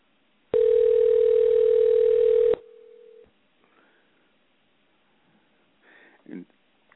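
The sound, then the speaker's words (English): A telephone ringing as heard down the line while calling a guest for the weekly internet program Free on the Inside: one loud, steady electronic ring tone lasting about two seconds, then a shorter, quieter tone, followed by near silence with a few faint rustles. “You may hear the phone ringing, and we're going to bring them aboard.”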